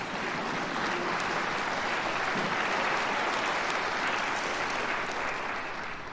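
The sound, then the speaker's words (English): A large church audience bursts into sustained applause during a sermon, a dense, steady wash of many hands clapping at once that holds strong for several seconds before easing slightly at the end. “Yeah, you can clap for that.”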